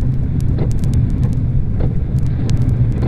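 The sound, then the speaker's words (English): A steady, loud low rumble of a vehicle engine as a unit arrives at a service station, with wind buffeting the microphone and faint intermittent ticks and clicks over the drone. “Here's a unit just coming in now.”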